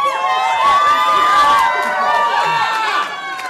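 A loud crowd in business attire and Tom Tillis apparel in North Carolina cheers and screams continuously as Tillis takes the stage after being named the outright primary winner, with many overlapping high-pitched shrieks and shouts blending into a dense, excited roar that holds steady throughout.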